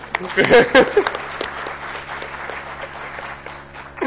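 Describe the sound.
An audience breaks into steady, dense applause that continues for several seconds, with a brief burst of voices over the opening moment before the clapping settles into an even patter.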